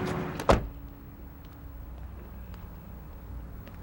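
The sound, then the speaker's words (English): A car door clunks shut with a single sharp thump near the start as a man climbs out of the driver's seat, followed by a low, steady idling hum and quiet outdoor ambience. “Sal climbs out of the driver's seat.”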